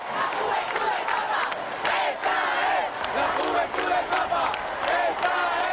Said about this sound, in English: Instead, their voices rose as one in a continuous chant, "This is the Pope's youth."